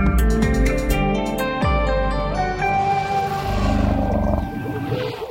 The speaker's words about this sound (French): nous sommes dans une réserve naturelle, Sébastien, nous sommes au Zimbabwe, qui ne sait plus quoi faire de ses éléphants